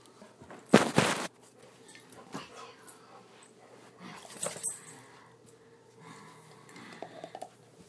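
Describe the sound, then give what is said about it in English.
A puppy with its leash still on whimpers softly, its thin whines coming in short bursts between loud rustling and shuffling noises as it moves around and grabs some water. “Hey, Pupper Snelly. Pupper Snelly. You silly puppy.”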